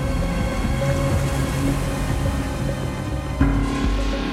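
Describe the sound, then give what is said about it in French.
Steady roar of surf churning and breaking on a coral reef, heard from a raft approaching the reef, with a sharper crash of a wave near the end; no voices. “Le radeau approche du récif, le bouillonnement du ressac sur la barrière de corail se fait de plus en plus menaçant.”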